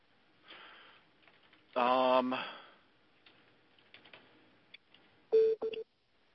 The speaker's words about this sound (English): Is that your phone? Yeah, it's just somebody calling me. Doesn't matter.